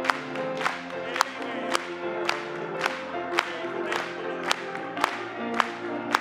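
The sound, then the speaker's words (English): An audience claps together in a steady, even beat, about two claps per second, over sustained singing and musical tones, with a lively crowd sound throughout. “Let's clap and join today.”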